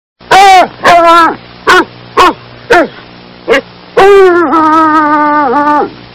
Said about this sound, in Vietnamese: Con chó săn thứ nhất ngửa cổ hú lên một tiếng thất vọng. Con thứ hai cũng kêu.